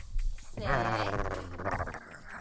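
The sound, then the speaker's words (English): Chloe, a small female dog, lets out a drawn-out, wavering grumble-whine lasting over a second. It is tonal and fairly loud, with a brief snuffly noise before it and no talking. “I think we need to have Chloe, the little dog, in here every single day.”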